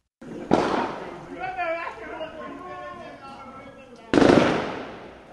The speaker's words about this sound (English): That is gunfire that was heard on the streets of Port-au-Prince, the Haitian capital, last night.